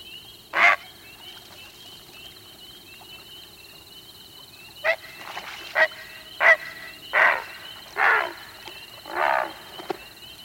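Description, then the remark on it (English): Loud, harsh, rasping alarm croaks of a disturbed great blue heron, a bird standing about 4 feet tall: one lone call, a pause, then a rapid series of about six more, the final croaks drawn out longer, over a steady high hum. “When disturbed, they signal alarm with a harsh croak, sometimes given in a series.”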